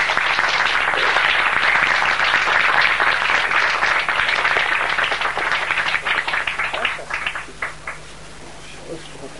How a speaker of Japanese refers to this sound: もう一度拍手を。